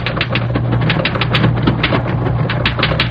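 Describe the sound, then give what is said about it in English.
Rapid, steady clatter of typewriter keys striking in quick bursts as a secretary types in an outer office, fairly loud, over a low constant mechanical hum, with no voices. “A very pretty new girl was typing in the outside office.”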